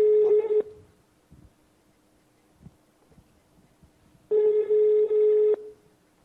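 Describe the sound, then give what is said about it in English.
A phone line rings back twice after a call is dialed in to Budapest, each steady buzzing tone lasting about a second with a long silent gap between, heard clearly over faint background noise and no talking. “You should hear something, hopefully. You're dialing from the phone, so maybe yeah.”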